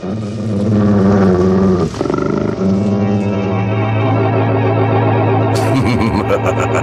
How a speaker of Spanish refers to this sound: ¿Qué es eso? Claramente escuché algo semejante al gruñido de un perro furioso. El pequeño Solín avanza un poco más y descubre... ¡Oh, sí! ¡Es un gigantesco lobo y se acerca a Calimán! ¡Va a atacarlo! ¡Va a morderlo!